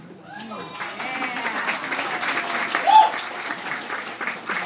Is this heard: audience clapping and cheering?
yes